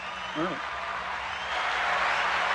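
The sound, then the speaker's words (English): A crowd applause sound effect played as an ovation for a 65th birthday: dense, steady clapping that fills the whole stretch at an even level, with a brief vocal whoop rising over it near the start. “Yeah, you get an ovation for your 65th birthday.”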